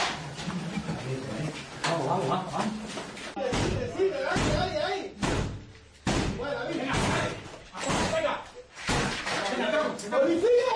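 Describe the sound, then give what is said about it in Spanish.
A police battering ram pounds a home's door as the National Police force entry during a police operation, a series of heavy, booming slams spaced a second or so apart, loud, while voices shout urgently over and between the blows. “Es el momento, con ariete en mano, pues la Policía Nacional entraba en una de las viviendas.”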